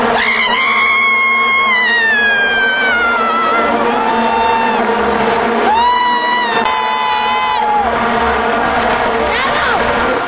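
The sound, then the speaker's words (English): A loud football stadium crowd cheers and whoops continuously after Ghana's equalizer, with the steady buzzing drone of vuvuzelas underneath and rising, wavering shouts cutting through at intervals. “Ghana's equalizer attracted a vuvuzela cheer, followed by halftime entertainment.”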